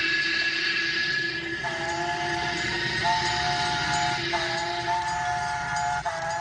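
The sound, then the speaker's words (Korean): A steam train at Promontory Point, Utah, where two trains met on May 10, 1869, rumbles steadily while its whistle sounds in long, sustained tones that step between pitches several times, shrill and continuous over the heavy mechanical noise. “두 기차가 프로몬터리 포인트에서 연결된 극적인 순간, 공사를 하던 양쪽의 인부들은 서로 부둥켜 안고 울기도 하고 웃기도 했습니다.”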